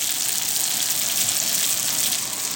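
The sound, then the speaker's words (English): Steady, dense sizzling of pasta frying in hot oil in a nonstick pan to crisp it, a bright crackling hiss that stays even and fairly loud throughout, with no voices. “I wonder if I transfer this to a nonstick pan with oil if it might crisp. Let me give that a shot.”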